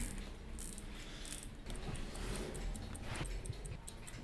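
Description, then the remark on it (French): A Zenith 1828 pocket watch, an 18-ligne watch, ticks in a quick, steady rhythm of small, crisp, high clicks over a constant low hiss, with no voices. “Alors ça s'appelle une Zenith 1828. C'est une 18 lignes, c'est une montre de poche.”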